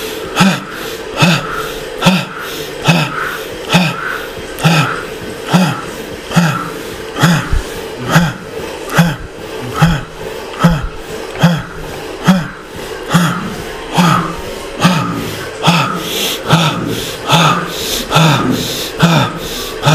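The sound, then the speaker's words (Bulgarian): Forceful rhythmic breathing exercise: loud, rapid sharp exhalations repeat steadily about once per second for the whole stretch, breathy, with no talking. “Спусни силата на този дъх. Продължавай.”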